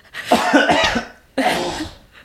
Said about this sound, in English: You can clear your throat if you need to.